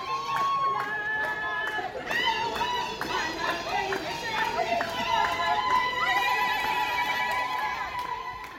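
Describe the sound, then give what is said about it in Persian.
A lively crowd at Nairobi airport in Kenya, a welcoming group greeting newly arrived Iranian groups, with many voices chattering, calling out and chanting together, keeping up a steady, excited din from start to finish. “حالا تصور کنید ترکیب گروه‌های ایرانیایی که تازه نفس وارد کنیا شدن با گروه استقبال دم فرودگاه چه شوری به پا کردن.”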